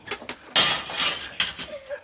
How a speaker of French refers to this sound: Azelma, vite, casse un carreau!